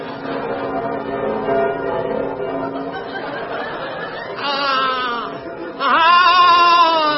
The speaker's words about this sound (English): The bells. I must ring the bells. That's all I do from morn to night. Ring the bells. That's how my life is spent, but I love the sound of the bells. Yes, I do like a good ding-dong.